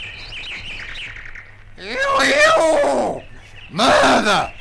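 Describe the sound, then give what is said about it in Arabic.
A rooster crows twice in the morning in loud, harmonic bursts, the first longer and wavering, the second shorter, after a stretch of softer high chirping. “ما إن انتهى الإخوة الثلاثة من عملهم وعادوا إلى غرفتهم حتى أصبح الصباح، وراح الديك يسيح سياحه المعروف.”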